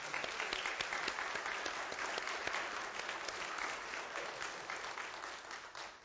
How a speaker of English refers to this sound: And I hope you have a chance to thank them for their role on our elder board. Matter of fact, let's just give them a quick round of applause.